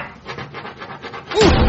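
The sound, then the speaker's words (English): A crayon scribbles across a wall in quick, rhythmic rubbing strokes as a picture is drawn, a dry scratchy sound repeating several times before one louder, rougher burst at the end. “I'm drawing a pretty, pretty picture.”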